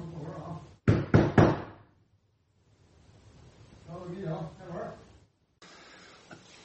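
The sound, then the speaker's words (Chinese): Three loud, sharp knocks on a door in quick succession, followed by quiet and then a low voice speaking softly. Police are knocking on the door of a friend's home in Tianjin, China, announcing they are from the local police station, before an arrest. “警察敲门，他说他们来了，然后被捕。”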